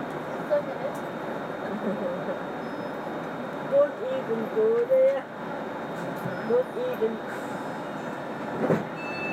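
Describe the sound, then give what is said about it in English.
A passenger train approaching Carntyne station, heard from inside the carriage: a steady, fairly loud low rumble throughout, with faint muffled voices and brief tonal squeals rising now and then. “Please mind the gap when alighting from this train.”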